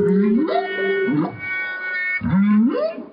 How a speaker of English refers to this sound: Rothenberg told Steve Paulson that he's always been fascinated by the way musicians have worked recorded whale songs into their music, but he wanted to try something different.